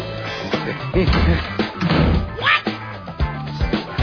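Several dull, hollow knocks on a door taken from a jar, knocking to see if Barbie is home, land at uneven intervals over a few seconds, mixed with muffled thumps and a brief rising vocal sound midway.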